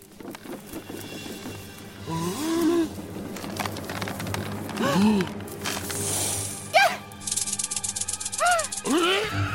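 rattlesnake rattling

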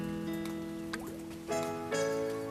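rain falling

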